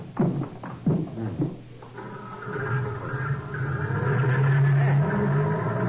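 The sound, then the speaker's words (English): Brief voices at the start, then a jeep with side curtains starts up and drives off to go by Orlando's palazzo, its steady low drone growing louder and holding a rising, humming pitch. “Side curtains on this jeep, and it's something Orlando must be used to seeing.”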